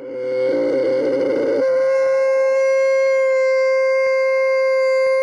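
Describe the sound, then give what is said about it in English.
A camel vocalizes with a loud, rough, gurgling groan that smooths into a long, steady, droning moan held for several seconds, with no talking. “The answer, a camel.”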